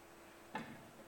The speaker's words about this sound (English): That darn clock.